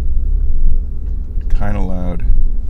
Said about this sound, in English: But now, what happens if I try to start my car with all this on? Is it overly loud? I'm going to roll up the window partially to avoid wind noise, but to let car noise out. Let's drive up the street.